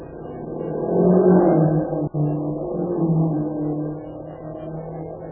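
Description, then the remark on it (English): A Japanese motor car's engine hums and rumbles, swelling in the first second or so, then holding a steady, slightly softer drone as it drives off toward the west gate of the town. No one speaks. “That car's all right. Heading toward the west gate of the town.”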